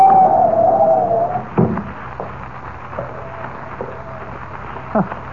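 Howling wind of a blinding snowstorm: a whistling, moaning wind rises and wavers over a steady rush of blowing noise, then settles into a constant roar with a few dull thumps.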